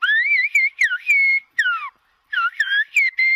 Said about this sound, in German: man pfeift Silben, man hört eine Sprache und trotzdem klingt diese Sprache wie Natur, wie Vogelgesang, wie Klänge. Klänge und Sprache fließen hier ineinander.